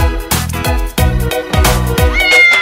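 Bright, tuneful meows repeat in a bouncy rhythm over a loud, steady musical backing with regular thumping beats, prominent throughout.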